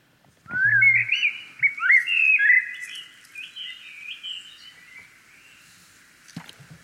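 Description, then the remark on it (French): A blackbird sings a fluid run of whistled, warbling phrases, loud at first, then trailing off more softly over several seconds, with no voices around it; heard at dawn through an open bedroom window. “Il s'est d'abord agi d'un merle.”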